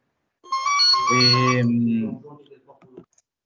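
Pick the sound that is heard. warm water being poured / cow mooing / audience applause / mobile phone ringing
mobile phone ringing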